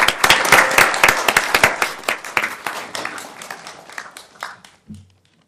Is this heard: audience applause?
yes